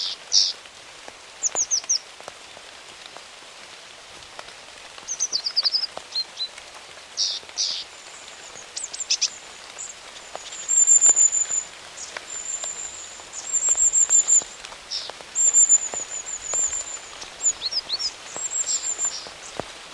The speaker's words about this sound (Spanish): llueve y solo los carboneros, mitos y arrillos se atreven a reclamar.